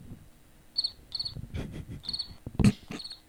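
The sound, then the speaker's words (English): Crickets chirp in four short, high trilling bursts spaced irregularly, moderately loud, with a few low thumps and rustles in between. “The 40 cricket salute.”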